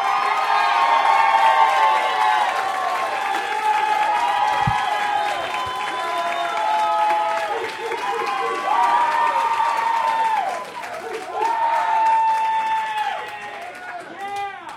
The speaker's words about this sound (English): Let's get a young guy out here. How about a big round of applause